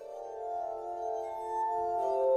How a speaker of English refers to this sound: You're hearing Adagio for Glass Harmonica, a composition by Mozart, Wolfgang Amadeus, that is.